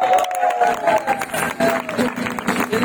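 An audience at an outdoor summer event applauds a performer in a steady, dense wash of clapping that holds for a few seconds, with murmuring crowd voices and a few cheers mixed in.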